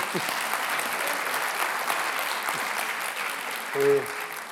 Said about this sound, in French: Merci et on peut l'applaudir. Merci.